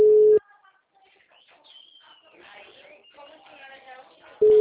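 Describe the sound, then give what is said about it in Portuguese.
Ringback tone of an unanswered phone call: a loud, steady low-pitched beep, then a stretch of faint, chirpy background sounds before the same tone starts again at the end. “Tá, estou tentando aqui ligar para ele, mas ele não está atendendo.”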